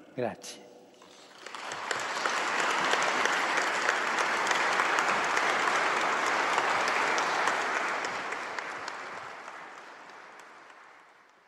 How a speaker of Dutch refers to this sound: En u hoorde het, een groot applaus van alle aanwezige ambassadeurs voor Paus Franciscus.